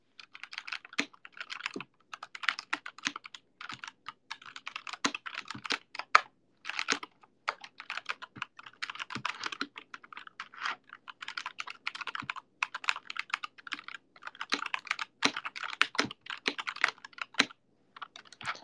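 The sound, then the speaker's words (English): Steady typing on an AN Pro 2 mechanical keyboard with tactile Cherry MX Brown switches, a continuous run of crisp clacks in uneven bursts with brief pauses, heard alone without any talking. “So those are the Cherry MX Browns”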